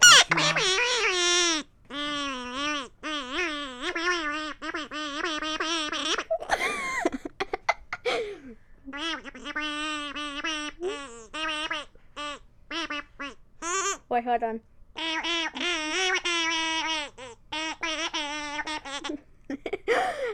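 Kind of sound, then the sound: tool, duck call being blown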